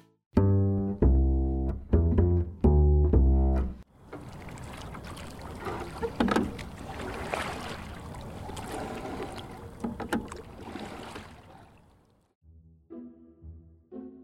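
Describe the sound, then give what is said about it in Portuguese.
Oars splash and churn through water as a rowing boat moves along in the sport of rowing, a steady rush of wet strokes following a brief musical jingle, then fading out. “Esta semana, Fora de Jogo, não é numa bancada, não é num balneário, mas a bordo de um barco.”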